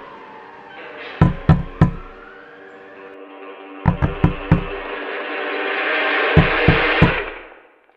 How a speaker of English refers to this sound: I open my eyes. A policeman is knocking on the window of my car.